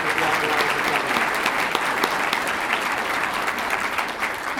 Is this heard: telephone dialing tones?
no